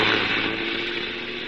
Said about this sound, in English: Stand back, honey. The bus is coming by. Might splash mud on us. He's coming awfully fast for a wet night.